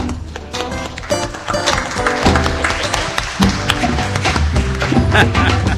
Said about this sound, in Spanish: Pueden seguir aplaudiendo.